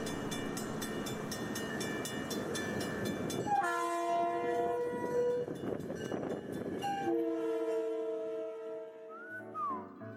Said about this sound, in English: Does anybody hear? I hear that train whistle coming down the tracks.